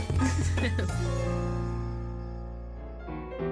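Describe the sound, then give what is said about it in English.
A quick flurry of bright glass clinks, like glasses touched together in a toast, followed by a clear ringing tone that hangs in the air and slowly fades. “Cheers. One more. Yay!”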